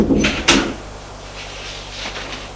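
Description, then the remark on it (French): A door shuts as a woman enters, with a quick scrape followed by a solid thump, then a faint low hum and soft shuffling noises linger afterward. “Elle entre et ferme la porte.”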